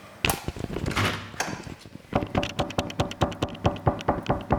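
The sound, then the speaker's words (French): Loud knocking on the front door of a home: a few irregular heavy raps, a brief pause, then a long rapid series of insistent, evenly spaced knocks because those inside take too long to open, with no voices. “Mais c'est parce qu'ils prennent trop de temps à ouvrir.”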